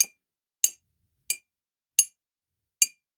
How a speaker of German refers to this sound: auch extra eine Tasse rausgesucht, gerade bei der man es besonders deutlich hört. Ja, aber ich höre es tatsächlich bei mir auch, ja. Ja, so, jetzt guck mal, also geh mal immer in 45 Grad Schritten vorwärts, mhm, und klopf mal, okay, gegen die Tasse.